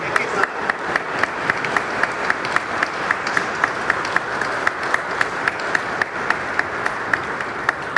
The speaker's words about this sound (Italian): Io penso che Monsignor Stanislav si merita un grande applauso. Facciamogli un grande applauso per tutto quello che ha fatto.